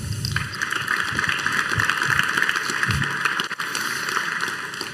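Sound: audience applause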